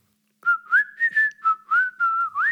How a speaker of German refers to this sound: Dabei pfeift er fröhlich ein Liedchen. Das gefällt ihm und den anderen Leuten auch.